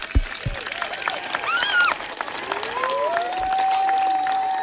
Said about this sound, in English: Every answer is getting a round of applause here, and why not indeed.